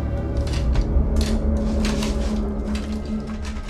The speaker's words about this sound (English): Tiana rushes to the guest room and rifles through a drawer of Raven's belongings. Finding nothing of interest, she shuts the drawer.